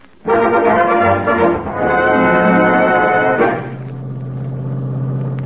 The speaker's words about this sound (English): I got in my car when nobody was looking and headed for Santa Anita.